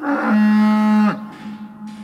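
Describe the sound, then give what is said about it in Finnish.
A single loud cow moo rises and holds for about a second as a low, droning bellow, then cuts off into quieter background sound. “Jos näiden tietojen lisäksi sitten perehtyy vaikkapa lehmän älykkyyteen ja siihen, minkälaisissa oloissa se tehotuotannossa elää ainoan elämänsä, niin ainut johtopäätös, jonka tästä mitenkään loogisesti pystyy vetämään, on, että tämä täytyy lopettaa.”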